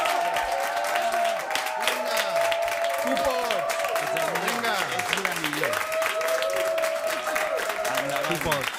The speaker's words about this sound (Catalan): Fem un aplaudiment especial per la gent que ens escolti Spotify